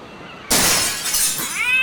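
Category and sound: impact, window glass shattering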